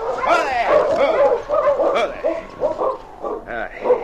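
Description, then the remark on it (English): A sled dog team barks, yips and whimpers beside a small cabin at the edge of the town of Deer Creek on a dark, snowy evening, their high, excited cries overlapping in a steady, restless chorus that carries on without a break. “You feed the dogs, Moose, and get them fixed up for the night.”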